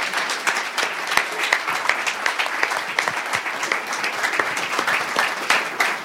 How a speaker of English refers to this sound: Thank you all for your awesome answer to that question. Can I get a round of applause for our panel members?